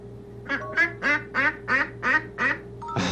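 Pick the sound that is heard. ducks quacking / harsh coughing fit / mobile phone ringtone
ducks quacking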